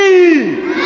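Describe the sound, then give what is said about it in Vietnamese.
A brief, loud burst of several young voices of a children's group in a church shouting together in one drawn-out cry, with the pitch sliding down toward the end. “Ai hét mệt quá. Đó là hy sinh, có khi hét to cũng là một cái hy sinh.”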